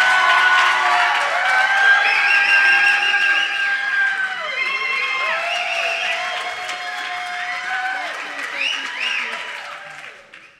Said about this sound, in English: gentlemen, please give a loud Aldersgate welcome